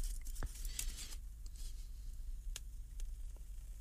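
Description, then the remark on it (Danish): Quiet crackling and rustling as a piece of paper or cedar wood catches light, to be used as a spill for lighting a cigar, with a few sharp ticks and a brief hissy flare over a low steady hum. “Så nu tænder jeg først det her papir, eller cedertræ.”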